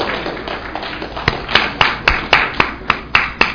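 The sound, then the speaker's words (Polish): An audience applauds, a dense patter of clapping that settles into loud, steady rhythmic claps in unison, roughly four per second, with no voices over it. “Ja chciałem zachęcić do oklasków, ale wszyscy oklaski.”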